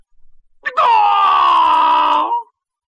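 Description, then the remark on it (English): A person imitates a rooster's crow: a short rising catch, then one loud, sustained, strained cry held for nearly two seconds before dropping off abruptly. “This is my last crow, but it will be my best.”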